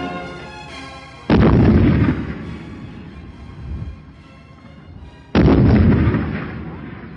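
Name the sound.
artillery gun firing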